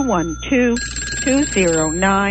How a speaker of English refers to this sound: I can tell from the phones ringing that we have a few more people in the tally room.